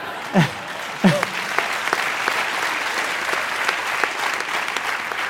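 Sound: children cheering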